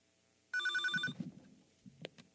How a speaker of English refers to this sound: Oh, it's the phone.